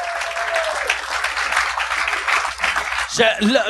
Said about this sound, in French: Merci, applaudissez-le.